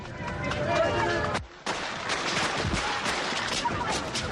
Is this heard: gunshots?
yes